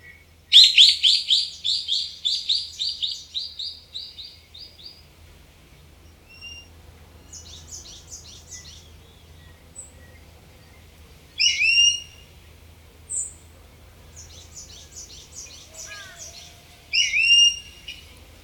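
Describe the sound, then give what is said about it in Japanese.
Ishigaki brown-eared bulbuls call back and forth in a subtropical forest on Ishigaki Island, Japan, in bright, high chirps and whistled notes, an opening burst of rapid trills followed by scattered calls over a low steady hum. “石垣島の豊かな森に育まれた石垣ヒヨドリ、鳴き合う声は亜熱帯の森によく似合います。”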